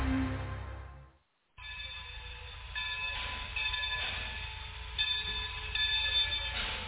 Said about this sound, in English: Okay, I'm hopping off the train now.